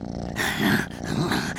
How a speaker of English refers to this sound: She's purring.